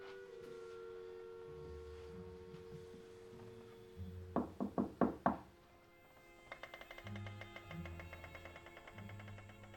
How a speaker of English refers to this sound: His shadow glides across the grubby walls as he creeps towards the room and knocks on the door.